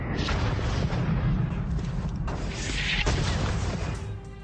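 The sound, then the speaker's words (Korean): A dense, rumbling barrage of naval cannon fire from British ships bombarding Fort McHenry, with shells and mortar rounds exploding, deep booms and sharp blasts overlapping continuously in a loud, chaotic battle roar, no voices present. “영국 함선들은 포트 맥헨리에 함포 사격을 가했습니다.”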